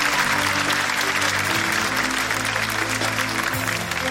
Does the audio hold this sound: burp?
no